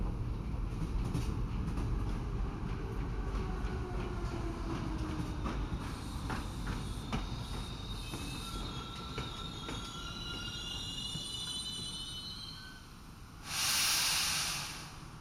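A train rumbles and slows with rhythmic clacking while high, drawn-out wheel squeals rise and waver above it, ending in a loud burst of hissing air brakes as it comes to a stop at a station.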